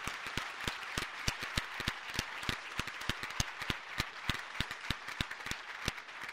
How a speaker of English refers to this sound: You made possible the largest single political fundraising event in the history of the great state of Montana. And I'm going to applaud that.